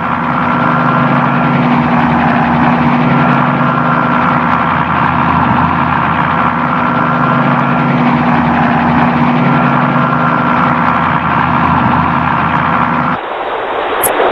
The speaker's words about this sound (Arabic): في مدينة جلادستون الساحلية ركبنا مركبا سريعا لنبلغ الحيد الأول في جزيرة هرن.